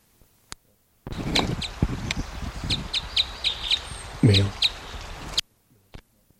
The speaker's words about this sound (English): Here's the female's flight call. Female there.